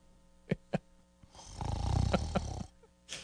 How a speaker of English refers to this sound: Yep. The snoring sound. Yeah, that was it.